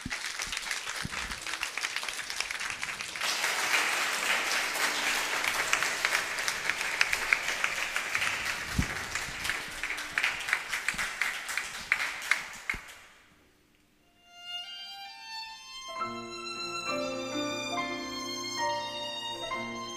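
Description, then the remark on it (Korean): A crowd applauds steadily for about thirteen seconds to welcome two sopranos and a tenor, dense and lively clapping that swells and then fades, followed after a brief pause by a piano and orchestral music beginning. “네, 우리 두 소프라노랑 테너 성악가 모시겠습니다. 큰 박수 부탁드립니다.”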